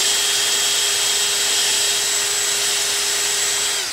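A power drill whirs steadily at high speed, spinning a Scotch-Brite abrasive pad against metal heads to clean them up, a harsh, hissing scrub, loud for several seconds before winding down.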